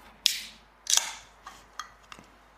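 A beer can is cracked open: a sharp metallic pop with a bright hiss, then a second louder snap and fizz, followed by a few small tinny clicks as the tab settles.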